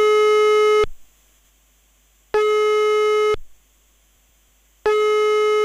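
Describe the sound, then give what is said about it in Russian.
Long telephone ringing tones repeat three times on unanswered calls to the Krasnoyarsk Krai Regional Capital Repair Fund, including its hotline. Each is a steady, buzzy mid-pitched tone lasting about a second, separated by longer silent gaps. No one speaks. “Однако, позвонив на три номера, в том числе и на горячую линию фонда, услышали только длинные гудки.”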